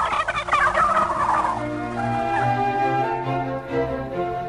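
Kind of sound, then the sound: bird, turkeys gobbling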